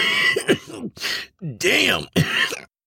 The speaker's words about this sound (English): They stepped outside and Sam lit the joint, then took a puff of it and handed it to …. … took a hit and held it in, then began coughing.